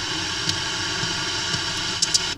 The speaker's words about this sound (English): And there's just something about the tape noise that's just different from any other kind of noise. It's just, I find it really beautiful. And this one has good clicks on it.